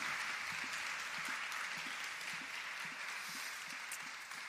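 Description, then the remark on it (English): An audience claps steadily, a dense wash of many hands at a fairly constant level with faint scattered low thumps underneath, no speech over it. “Let's clap for her and then let's pray for her.”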